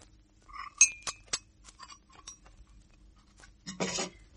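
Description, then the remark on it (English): Teacups and cutlery clink as tea is served, in a few sharp, bright strikes with lighter scattered taps between them, ending in a longer rattling clatter of china and spoons. No one speaks. “I like a strong cup of tea.”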